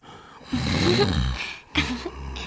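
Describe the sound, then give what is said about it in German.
Loud, rasping snoring of a police commissioner asleep in a bed in a former small jail, mighty enough to make the jail bars shake: one long, rumbling snore followed by a second shorter one, with a brief gap between them and no talking. “Plötzlich hörte Buffy ein Schnarchen, ein richtig mächtiges Kommissarschnarchen, das das Gefängnisgitter zum Zittern brachte.”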